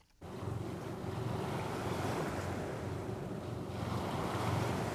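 Steady rushing of sea water and waves washing past a two-masted boat running on its engine off the Ligurian coast of the Italian Riviera, continuous, with a low engine rumble and some wind buffeting the microphone; no voices.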